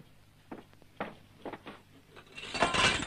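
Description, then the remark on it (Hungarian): A few scattered knocks and taps, then a bright crash of the glass of a picture frame breaking, with tinkling shards near the end. No voices. “Na, nem történt semmi, csak az üveg.”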